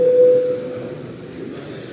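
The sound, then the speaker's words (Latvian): A parliamentary voting call bell, rung when deputies want to vote: one steady, mid-pitched electronic tone rings for about half a second, then gives way to a low hum of background noise with no talking. “Deputāti vēlas balsot, lūdzu zvanu.”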